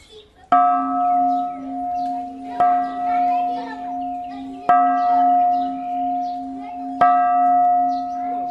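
A large bell at the Shwedagon Pagoda in Yangon, Myanmar, is struck four times at steady intervals by tourists as a purification ritual, each deep ringing tone sustaining and overlapping the next, while children's voices and chatter carry faintly in the background.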